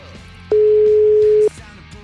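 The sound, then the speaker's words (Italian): A single loud telephone tone, one steady pitched beep lasting about a second, rings out over a low murmuring background as a call connects to an answering machine. “Risponde la segreteria telefonica”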